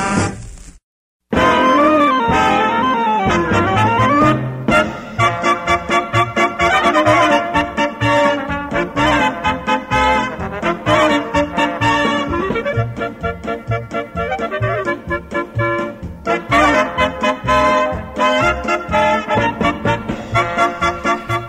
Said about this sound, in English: Anyway, yeah, we're doing polka tonight.